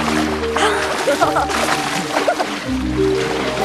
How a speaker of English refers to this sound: He splashes Georgia in her face.